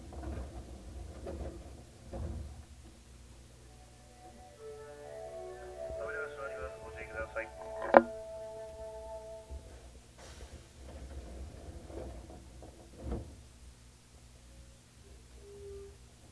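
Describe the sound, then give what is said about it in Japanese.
Train doors slide open on the right side at Tanabe station, with short pneumatic hisses, a run of chiming tones and a sharp clunk, all over a steady low carriage rumble, with muffled voices in the background. Komagawa-Nakano, station number T31, is the next stop. “田辺、右側の扉が開きます。ご注意ください。”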